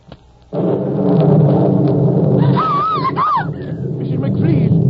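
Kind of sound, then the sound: nature, thunder rumbling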